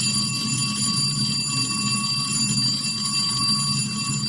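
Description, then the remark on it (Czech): A school bell in Bosnia and Herzegovina rings steadily and loudly without a break, its bright metallic clatter filling the whole stretch over a low background hum, with no voices. “Dvocifren je broj škola u Bosni i Hercegovini u kojima se više ne čuje školska zvona, jer su zatvorene zbog manjka đaka.”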